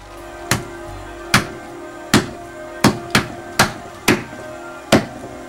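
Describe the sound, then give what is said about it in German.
A meat mallet smashes a melon in eight sharp, heavy blows at an uneven pace, each a loud crack with a brief ring-off, with no talking. “wenn man so den Fleischhammer nimmt und die Melone zum Beispiel”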